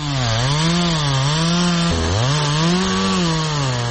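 A chainsaw, in the hands of a man, cuts through old railway sleepers near Haustor; its loud, steady engine snarl rises and sags in pitch under load, with a sudden dip midway before it revs back up.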